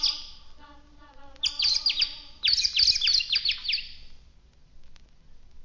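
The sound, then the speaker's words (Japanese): Small birds chirp busily deep in a forest, bursts of high, rapid tweets overlapping in quick clusters, with a faint steady hum beneath and no talking. “森の奥で小鳥がにぎやかにおしゃべりをしています。”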